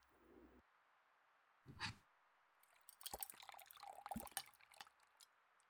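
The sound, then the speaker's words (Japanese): Soapy water being whipped into shaving lather with barber-style shaving tools: wet squelching and bubbly whisking in irregular bursts over a couple of seconds, after a brief soft knock and a quiet stretch. “石鹸水を泡立てて、ひげ剃りクリームにするの。”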